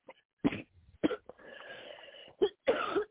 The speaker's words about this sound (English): Need a cough drop or something?